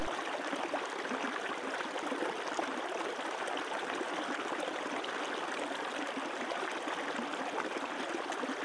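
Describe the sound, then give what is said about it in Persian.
A river's steady flowing water, continuous and even, with a soft bubbling rush that stays at a constant moderate level throughout, with no voices. “تصور کن این جریان آب در تمام رگ‌هات جاری شده.”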